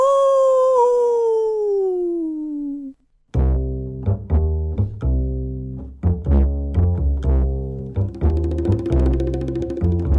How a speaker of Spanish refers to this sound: El hombre lobo. ¡Aú!